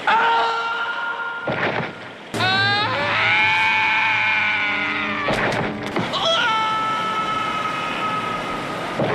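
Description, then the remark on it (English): Loud, drawn-out screams with a slowly sagging pitch, several in quick succession and split by sharp, noisy bursts: a comic falling-scream sound effect as a man is thrown off a rope. “And they do utilize a slightly different falling scream sound effect, which is very satisfying.”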